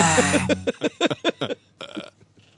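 A loud, raspy fart blares up close, followed by a quick string of short, rhythmic bursts that trail off into a few fainter sputters.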